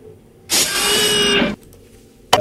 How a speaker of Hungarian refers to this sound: Pörgettem az időgépet, és most egy szépet pörgettem, mert 100 kerekével megyünk vissza az időben.